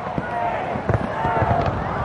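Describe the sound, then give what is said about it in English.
New Year fireworks over Sydney Harbour in Australia thump and crackle in a quick irregular string of low booms beneath a steady wash of crowd noise and murmuring voices. “Boom. Set off the fireworks.”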